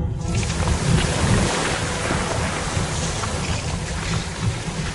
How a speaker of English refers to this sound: Water came out onto the floor around us.